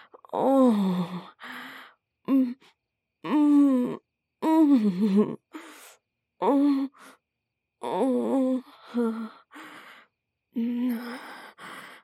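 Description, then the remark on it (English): A person pants in a string of about ten breathy, voiced gasps and sighs, irregularly spaced with short pauses, some rising and falling in pitch. No words are spoken. “I can hear you panting, little bro.”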